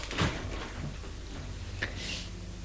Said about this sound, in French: Le vieux ouvre une porte.